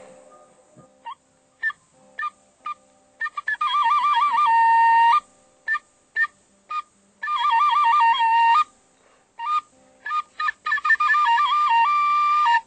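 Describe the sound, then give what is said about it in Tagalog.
Loud calls of birds in the mountains: a scatter of short, sharp chirps followed by three long, warbling trills that wobble rapidly between pitches, with brief chirps between them and no talking. “Ang pangalawa po, yung uni ng ibon, yung mga kaibigan namin na ibon or palaka sa mountain.”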